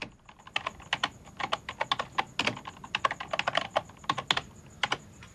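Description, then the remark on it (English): A woman taps absentmindedly on a computer keyboard while thinking: crisp typing in uneven bursts of rapid clicks, with brief pauses between flurries of keystrokes and a faint steady hum in the background. “Her fingers hover over a keyboard. She taps the keys absentmindedly as she thinks, gazing out of the window before typing.”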